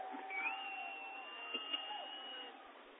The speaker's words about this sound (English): Crowd getting loud, but really they shouldn't get quiet here.